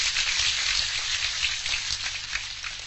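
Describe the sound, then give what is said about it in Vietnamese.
A steady round of applause called for by a monk to praise the blind listeners: dense crackling clapping from many hands that holds at an even, fairly loud level for about three seconds with no voices over it. “Vậy thì xin cho một tràng pháo tay khen các vị khiếm thị nào.”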